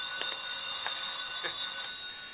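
A telephone bell rings in a steady, bright metallic trill, pulsing slightly as it goes, fairly loud and with no voices over it.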